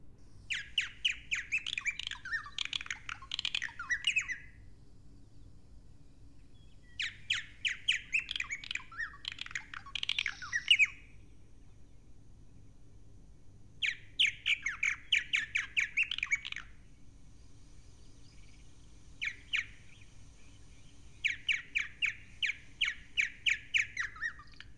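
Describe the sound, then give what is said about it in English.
Bubbling, gurgling song of birds with iridescent purple wings that swirl through the sky above a lake, in several dense, chattering bursts of a few seconds each, separated by brief pauses, with no voices over a low, steady background rumble. “And I've heard their distinctive bubbling song.”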